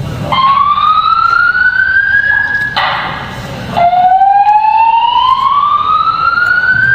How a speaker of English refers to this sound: The reason for the alarm is now being investigated. We will keep you advised. Thank you.